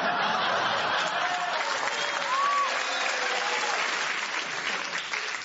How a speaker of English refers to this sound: Oh, he got so many rounds of applause in that thing. Give him an extra bonus point for what he did, because the audience applauding endorses that.